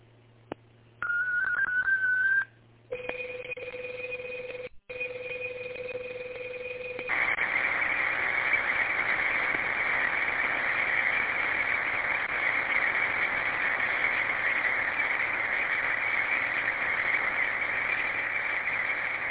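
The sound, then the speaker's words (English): Digital radio data transmission tones over a band-limited radio channel, station KGTC sending digital traffic, a 29-second message wishing everybody Happy New Year and reminding of the board meeting: a wavering single tone, then a pair of steady tones, then a loud, continuous buzzing data burst that runs to the end, with no talking. “Stand by for digital traffic. This is KGTC. Digital traffic is as follows.”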